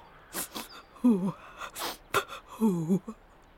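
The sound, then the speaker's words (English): A voice imitates a giraffe sniffing sadly: several sharp, breathy sniffs alternating with two short, wavering whimpers, moderately loud, with no other sound underneath. “On the pavement stood a giraffe who was sniffing sadly.”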